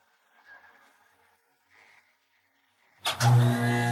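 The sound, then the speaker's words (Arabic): A tow truck engine, pulling a very heavy tractor, strains with faint sputtering whines for a few seconds as the tow truck breaks down, then a loud, rough roar bursts in and holds through the end, no voices. “أوه، هذا الجرار ثقيل جدا. شاحنة السحب تعطلت.”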